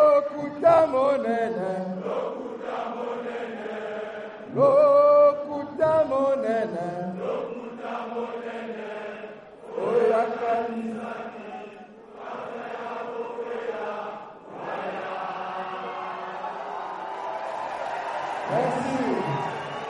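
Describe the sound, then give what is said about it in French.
Thousands of supporters packing the Palais des Congrès in Brazzaville, Congo, chant in loud rhythmic bursts for several seconds, then break into sustained cheering and roaring as Guy-Brice Parfait-Colela announces his presidential candidacy. “Et quand il le fait, la foule jubile.”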